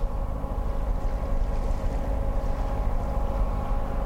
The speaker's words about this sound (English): Since little electricity reaches Chiloé's tiny coastal hamlets, each salmon raft has a droning diesel generator to power its lights.